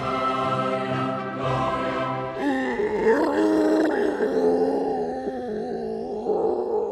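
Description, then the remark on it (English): A seal lets out a long, loud series of grunts and groaning moans, starting as a steady droning call and breaking into rougher, wavering groans, with no talking. “Ooh, the seal liked that one.”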